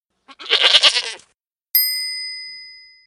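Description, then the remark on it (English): A single brown goat bleats in a short, wavering, nasal cry, followed after a brief pause by a bright chime ringing out and slowly fading. No one speaks. “A brown goat.”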